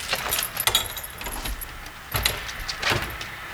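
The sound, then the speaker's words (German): Metal keys jangle and clink in several bright bursts, followed by rattling and faint clicks as the padlock on a shed is worked open. No one speaks. “Da ist aber ein Schloss vor. Zu dem Sie und ich jedoch den Schlüssel haben”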